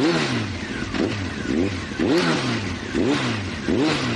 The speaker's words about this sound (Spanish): ¿Eres un auténtico fanático del motor? Pues si es así, más te vale arrancar motores.